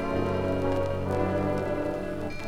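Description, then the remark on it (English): A steady swish of rain with a constant low hum running beneath it, holding an even, fairly loud level throughout with no voices. “Like the empty sounds of morning, the painful swish of rain, and the desperate hum of motors.”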